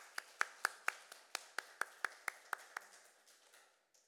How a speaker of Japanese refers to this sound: 拍手を送りましょう。